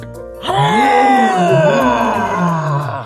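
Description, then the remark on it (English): A human voice imitates a lion's roar: after a short quiet moment, one long, loud, strained cry with a rough, wavering pitch holds for over two seconds before trailing off. “Lion took a deep inhale and let out a loud and mighty roar.”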